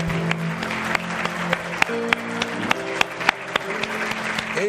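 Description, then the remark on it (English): A church audience claps together as a clap offering to Jesus, in a steady rhythmic beat, sharp hand claps repeating roughly every half second over a sustained, low musical drone. “It should make you to clap better than this to know that He knows your name.”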